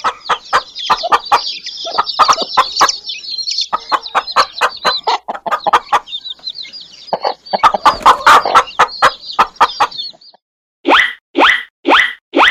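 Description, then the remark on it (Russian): A hen clucks in rapid, repeated bursts, loud, with a busy background of other birds chirping; a few sharper, longer squawks close the sequence. “Давай послушаем, как курица кудахчет.”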